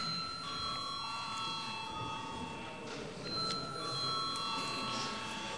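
An electric chamber bell in a parliament rings continuously for several seconds before a vote on electing a deputy to a commission, a steady, bright metallic tone held without pause over a faint background murmur.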